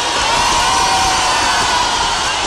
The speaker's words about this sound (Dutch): In de snel donker wordende middag wordt het prinselijk paar bij zijn terugkeer bij het paleis begroet door hartelijk gejuich.